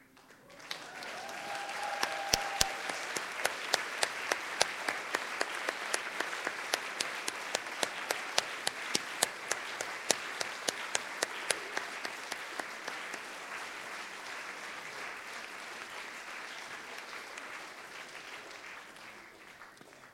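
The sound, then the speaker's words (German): Sustained audience applause for everyone who helped, as their names are shown during the closing piece: many hands clapping, building quickly and holding steady for about twenty seconds, with sharp individual claps standing out early before the sound slowly thins. “Dann könnt ihr dann noch mal ganz fest klatschen.”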